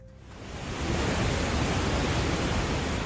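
A dense, continuous roar of heavily rushing water from the Iguaçu Falls at one of its highest levels in years, about 18 million litres per second, swells up in the first second and then holds steady and loud, filling the whole range with no voices.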